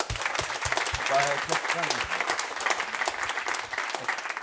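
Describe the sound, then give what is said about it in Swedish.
A crowd applauds steadily, a dense rattle of clapping hands that holds at a fairly loud, even level throughout, with a few voices murmuring and calling out underneath. “En applåd!”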